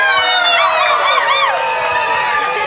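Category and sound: crowd, audience cheering and whooping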